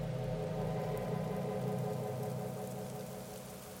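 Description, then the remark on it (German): Steady, humming November rain in afternoon darkness makes a continuous wash of noise with a low droning undertone, even and unbroken throughout, fading only slightly toward the end with no voices. “Summender Regen und Novemberdunkelheit schon am Nachmittag.”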